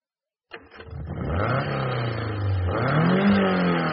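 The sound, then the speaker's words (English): After a brief silence, a car engine cranks and catches, settling into a steady mid-pitched hum before revving up with a rising whine near the end. Fairly loud, no voices. “Just listen to that. You can hardly tell the engine's running.”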